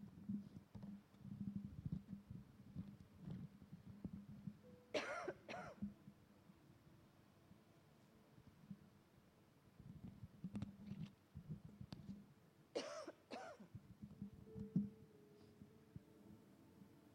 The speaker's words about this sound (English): Okay, I'm going to have a coughing fit any minute.